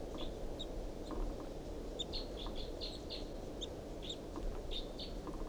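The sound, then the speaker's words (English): Quick, high chittering notes from a wild bird up in the top of a tall pine above a truck, responding to decoy calls, repeat in short bursts over several seconds, fairly faint, layered over a steady low rumble of outdoor background noise. “Chitter by the wild bird.”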